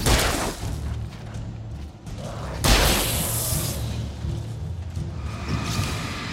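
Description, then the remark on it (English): Game gunshot sound effects: a couple of loud, booming blasts with a wet, thumping punch, separated by a few seconds over a dense, rumbling background of mechanical noise and whooshes. “I love the quality of those gunshot noises.”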